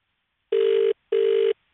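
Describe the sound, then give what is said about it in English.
Two identical ringback tones from an outgoing phone call to Harvey Bay, each steady buzzing burst lasting under half a second with a short gap between, clear with no talking. “We're happy you answered the phone.”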